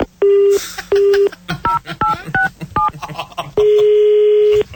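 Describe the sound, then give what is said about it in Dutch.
A phone number being dialed to call the police: a long steady tone, a second tone, then five short beeping keypad tones in quick succession, ending in another long sustained tone, with faint voices murmuring underneath. “We gaan de politie bellen, want dit klopt helemaal niet.”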